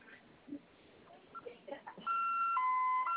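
Faint, muffled talk gives way to a home security alarm suddenly blaring after being activated by holding the A key for 5 seconds during code setup, a loud, steady electronic tone alternating between two pitches, sounding tinny as if heard over a phone line.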